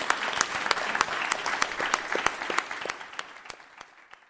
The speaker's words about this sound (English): Can we have a final round of applause for both of our excellent speakers today?